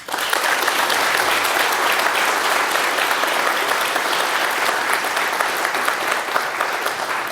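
A large audience applauds steadily for several seconds, a dense, even wash of clapping hands that stays loud throughout with no voices standing out.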